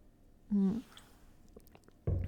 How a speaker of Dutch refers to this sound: Nu even een slokje thee.